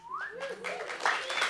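An audience at a live storytelling show at Bumpport Theater in Denver, Colorado, recorded February 15, 2017, breaks into steady applause, a dense wash of clapping with a couple of rising whistles and whoops cutting through, fairly loud and sustained throughout.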